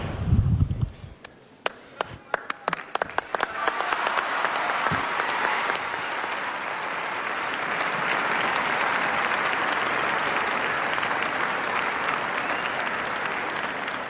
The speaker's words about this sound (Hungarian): Zarándokok sokasága a mai napon is tapssal köszöni meg Ferenc pápa tanítását, valamint az ő áldását.